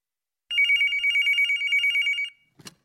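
A telephone at NSC Jobs and Careers rings in one continuous burst of rapid, trilling pulses, loud, then stops, followed by a brief clatter like the receiver being picked up.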